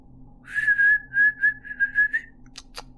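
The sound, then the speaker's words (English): A man whistles to call his dogs, Wilmer and Aldrich, a steady, warbling tone in a quick string of short pulses for about two seconds, clear, followed by a few faint clicks. No one speaks. “He called the dog's names and whistled out, Wilmer!”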